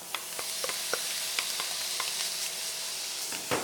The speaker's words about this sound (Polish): Też delikatnie można podsmażyć. I nasz pulled pork.